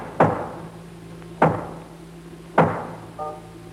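Three heavy, evenly spaced knocks on a door, about a second apart, each a loud thud with a short ringing decay over a low steady hum. No one speaks.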